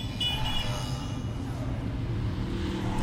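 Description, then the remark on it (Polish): A car engine drones steadily and loudly throughout as it drives through a tunnel, its low rumble smeared into a hollow, reverberant, echoing wash. “To jest tunel. Morda. To echo też jest świetnie zrobione.”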